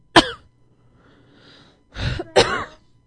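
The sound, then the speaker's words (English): A person imitates a pig with three harsh, nasal snorting grunts: one sharp burst, a pause, then two rougher squealing snorts in quick succession. “You can't do a pig. Do a pig. He's doing that.”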